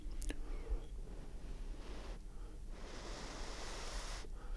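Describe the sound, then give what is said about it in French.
Soft, breathy blowing through a soap bubble wand in an enclosed place without wind, using a somewhat old bubble solution, in several long airy puffs separated by short pauses, with no talking. “Je sens que j'ai des difficultés à faire des bulles.”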